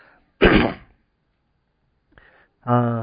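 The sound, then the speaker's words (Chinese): A preacher coughs sharply and loudly before a sermon, followed after a pause by a brief soft catch and then a voiced, rasping throat clearing. “还是一直在咳嗽，所以请大家也为我这段讲到的时间祷告啊，真的求神给我能够不会那么多的咳嗽影响整个的讲道的过程。”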